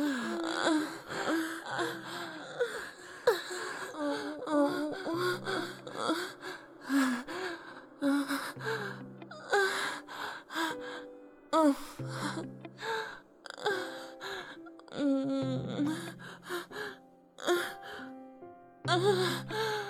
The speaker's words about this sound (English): And moaning. And breathing.